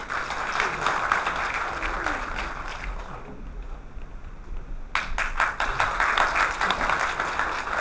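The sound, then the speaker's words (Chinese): An audience at a Haijin Forum lecture on intangible cultural heritage applauds steadily to welcome the lecturer, with dense, crackling clapping that thins out briefly midway, then swells back up just as strongly and carries on to the end. “下面让我们以热烈的掌声请出”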